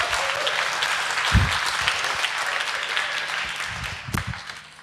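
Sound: audience applause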